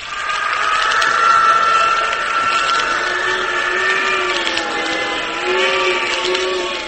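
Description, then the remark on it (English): A loud, steady roar of rushing wind in a wind tunnel, tossing a full-sized plane under test, with a droning mechanical hum, its pitch wavering slightly as it sweeps on without pause, and no voices. “It's a full-sized plane, and yet that wind is tossing it around like it was a cork almost.”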